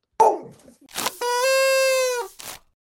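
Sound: dog barking and whimpering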